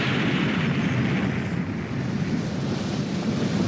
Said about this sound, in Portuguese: É um terremoto. Vejam só aquilo.